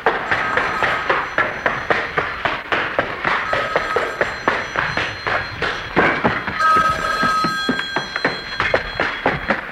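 A telephone bell rings insistently, its sustained metallic jangle running through the whole stretch, accompanied by rapid, rhythmic thumps like hurried footsteps. No one speaks.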